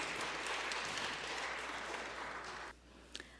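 An audience applauds in a dense, steady burst of clapping that holds strong for over two seconds, then cuts off abruptly, leaving a few scattered claps trailing.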